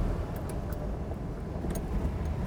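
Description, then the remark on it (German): A car drives along in bright sunshine with its roof open and windows down: a steady rumble of engine, road and wind noise, unbroken throughout, with no one speaking. “Wir haben das Dach offen, Fenster auch runter.”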